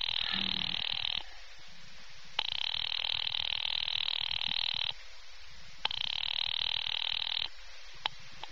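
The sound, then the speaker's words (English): A telephone line rings three times as a call is placed to an office, each ring a steady, buzzy tone lasting a second or two, separated by short quiet gaps. The rings are clear and fairly loud, with no voices. “Ringing Murray Hill 70093.”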